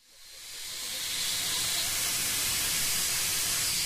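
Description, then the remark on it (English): Valves cracked open on the Little River steam locomotive to relieve mounting pressure let out a steady, rushing hiss that swells up over the first second and then holds loud and continuous, with no voices. “Steam builds slow and steady in the engine of the Little River locomotive, trailing out of valves cracked open to relieve the mounting pressure.”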